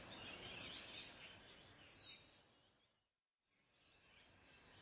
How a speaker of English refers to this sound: Quiet, bird. You just roost on this bush here. Here, got a dead mouse in my pocket for you to crunch.